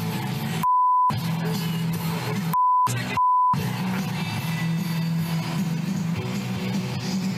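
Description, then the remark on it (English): A steady electronic censor beep cuts in three times, two short tones and one slightly longer, over loud crowd noise and indistinct shouting at an outdoor gathering, covering a man's insult about Justin Trudeau's wife shouted at Trudeau on the campaign trail. “They beeped it.”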